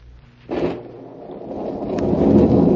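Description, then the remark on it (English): A heavy rainstorm roars steadily, with a sudden rush of wind-driven noise after a brief lull, then the downpour swells louder toward the end. No one speaks. “Soaked to the skin, his shoes leaking, Joe Martin trudged through the rain toward Benedict's pawn shop.”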